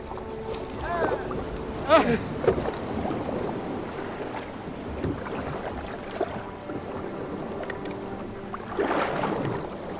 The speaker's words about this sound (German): An die Riemen! Sabu, Kurs Steuerbord!